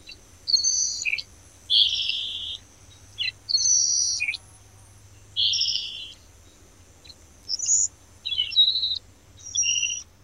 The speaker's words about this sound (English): If you guessed the salt marsh sparrow, you're right. This species, sometimes referred to as the salt marsh sharp-tailed sparrow, is one of 25 kinds of sparrows known to occur in Virginia.